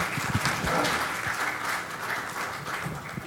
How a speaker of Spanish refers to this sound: Vamos a darle un aplauso para darle la bienvenida.